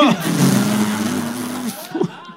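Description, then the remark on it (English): A motorboat engine on a canal drones steadily and fairly loud as it passes by, its hum holding an even pitch before cutting away, followed by a brief voice at the end. “Hey, you doing a nice boat up there? It's great boat now.”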